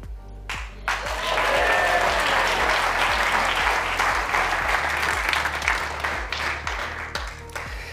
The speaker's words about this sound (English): Big round of applause.